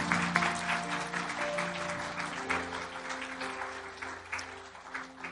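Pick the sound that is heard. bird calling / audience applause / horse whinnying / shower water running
audience applause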